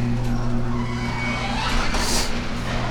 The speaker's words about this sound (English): Opening the garage door.